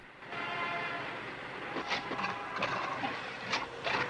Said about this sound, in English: the taxi's engine splutters, worrying the driver.